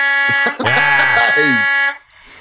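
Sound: truck horn honking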